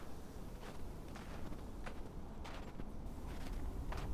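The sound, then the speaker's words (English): Faint, steady footsteps crunch at a walking pace in the distance at a vacant, long-unused campsite, seeming to draw slightly closer over a low rumbling background, with no one speaking. “That's when I heard footsteps approaching in the distance.”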